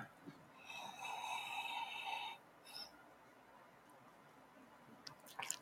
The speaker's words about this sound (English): you just put your mouth over the cup and you smell. It's like, oh my God. Aroma is wonderful.